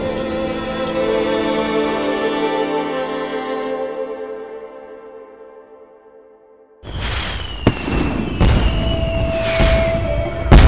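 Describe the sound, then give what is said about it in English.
A long, fading ringing tone dies away, then fireworks burst in loudly: sharp bangs, steady crackling and thin whistling streaks, continuous to the end. “Fireworks sprayed sparks up in a fountain of light.”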